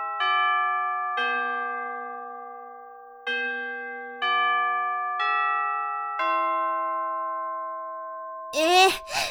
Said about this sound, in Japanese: なんでこんな時間にチャイムが鳴るの？おかしいでしょ？放課後だよ？なんなら今、5時11分だよ。何の区切りもないでしょ？